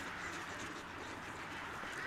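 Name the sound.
ducks quacking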